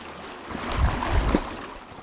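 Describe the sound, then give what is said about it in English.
Wind rushes over the gently lapping water of a loch, with soft low splashes swelling briefly in the middle before settling back into a steady breezy hush. No voices. “It's getting a little bit windy now, so maybe there might be some wind over that. Lapping.”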